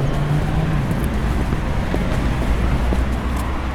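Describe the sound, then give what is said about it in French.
A hearse's engine rumbles steadily amid a constant wash of road traffic noise, with low droning tones and some wind buffeting throughout. “que c'est cette voiture ? Voilà, c'est un corbillard en fait.”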